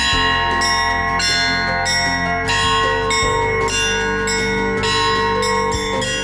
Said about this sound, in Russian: озаряют окрестности мелодичным звоном кампаны. Визитной карточкой праздника стал фестиваль колокольного искусства.